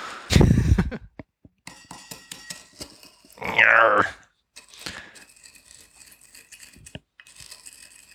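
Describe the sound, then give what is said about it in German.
Gritty grinding and scraping as a lot of sugar with little water is muddled in a cocktail glass until dissolved: a loud crunching burst, then scattered clicks, a second harsh grinding stretch, and softer rasping scrapes to finish. No one speaks. “Ja, Moment, beim Auflösen kann ich jetzt ja nachhelfen. Nämlich muddle until dissolved.”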